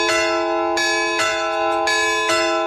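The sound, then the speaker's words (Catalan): The new church bell of Solsona tolls the signal for a municipal council plenary session, in a steady sequence of five loud strokes, each strike's bright metallic ring sustaining and overlapping the next, with no voices. “I encara ens falta un altre toc que s'havia perdut, el de ple municipal.”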